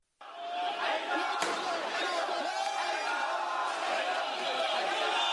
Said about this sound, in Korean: 네, 이란인들이 수도 테헤란에서 사우디아라비아 정부를 비난하며 시위를 벌이고 있는 소리입니다. 이들은 사우디 정부가 폭동 선동 혐의로 수감 중이던 저명한 시아파 지도자를 포함해서 50여 명에 가까운 시아파인들을 처형한 걸 강력히 항의하고 있습니다.